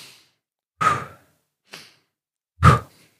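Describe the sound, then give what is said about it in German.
Two deep, audible breaths, each a quieter inhale followed by a loud, airy exhale like a sigh, taken slowly with short silences between them. “Okay, jetzt atmen wir zweimal durch.”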